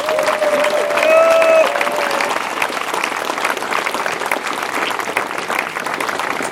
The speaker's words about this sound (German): Und an dieser Stelle noch einmal ein ganz herzliches Dankeschön. Großer Applaus für Sie.